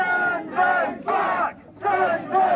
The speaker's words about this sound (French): Renvoyez-les chez eux, hurlent les manifestants, drapeau britannique et croix de Saint-Georges à la main, debout face aux policiers devant l'hôtel ceinturé de grillage.